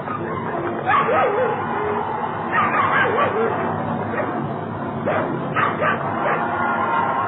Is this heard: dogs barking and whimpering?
yes